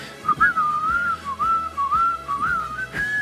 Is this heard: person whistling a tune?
yes